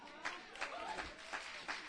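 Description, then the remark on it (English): A church audience claps during a sermon at a moderate level, a diffuse patter of applause with a few sharper claps standing out every third of a second or so. “Why y'all clapping?”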